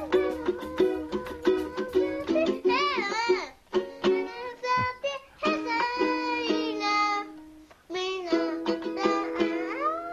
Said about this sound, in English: That's a toddler with a ukulele covering a ….